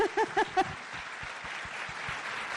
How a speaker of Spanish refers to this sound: Bueno, un fuerte aplauso.